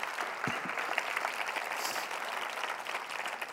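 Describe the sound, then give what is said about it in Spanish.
An audience applauds steadily, a dense wash of many hands clapping at an even, fairly loud level for the whole stretch, with no one speaking over it. “Dale un aplauso a él.”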